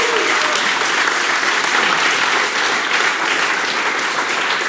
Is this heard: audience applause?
yes